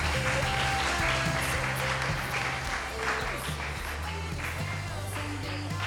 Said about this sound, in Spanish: Un fuerte aplauso para ellos, sí señor.